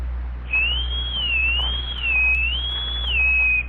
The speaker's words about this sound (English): Now, that is a genuine Tom Mix slide whistle ring. You could tell by the sound. Yeah, is that a bullet-shaped whistle on top of the ring? Well, more or less.